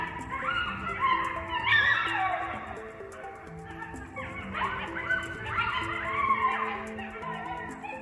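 A chorus of coyotes howls and yips together, several high wavering voices overlapping in rising and falling cries, fairly loud and continuous throughout.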